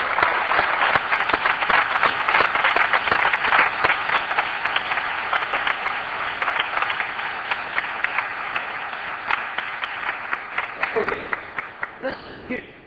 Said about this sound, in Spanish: Listen. Escuche, aplaudan.